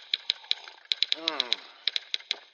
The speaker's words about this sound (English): Yeah, I'm trying for the typing sounds in the background of all the bumpers here. How's that working out? What do you think?